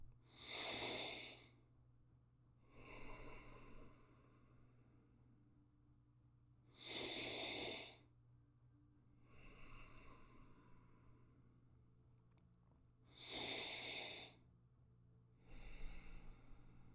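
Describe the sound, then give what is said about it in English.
Slow, deep breaths in and out through the nose, done five times, each inhale a loud rushing draw followed by a softer, longer exhale, repeating in a steady cycle with quiet pauses between. “And we're going to start breathing in, eyes closed, breathing in through your nose, drawing breath, breathing out through your nose. I'm going to do this 5 times.”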